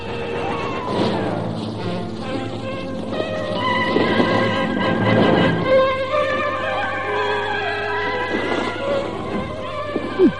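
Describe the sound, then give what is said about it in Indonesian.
A horse of Mak Rompang's horse carriage in a forest on a full-moon night whinnies loudly and repeatedly, with a steady clip-clop of hooves and faint insect buzz underneath; fairly busy throughout, with no talking. “Aku akan mendekati kereta kuda itu.”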